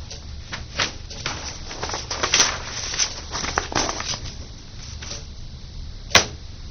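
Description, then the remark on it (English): A loud clock ticks steadily, its sharp clicks repeating in an even rhythm for several seconds, with a couple of brighter, snappier clicks standing out. No one speaks. “I'm glad I don't have that clock in my house.”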